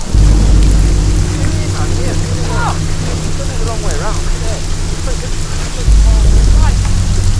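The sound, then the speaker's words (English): Heavy rain pours down steadily with a deep, buffeting wind roar underneath, loud and unbroken throughout, battering a memorial in the mountains in daytime as men break camp, while faint voices occasionally murmur beneath the downpour. “In daytime, the memorial is battered by wind and rain as the men break camp in a heavy downpour.”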